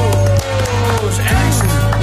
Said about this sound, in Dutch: Applaus!